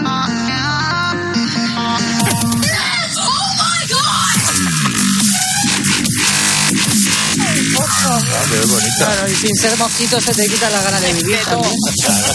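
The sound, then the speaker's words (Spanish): A loud electronic song said to repel mosquitoes plays nonstop, with dense buzzing synth layers, sliding and wavering high tones, and a steady low pulse underneath, harsh and grating from start to finish. “Es de verdad un repelente antimosquitos fantástico.”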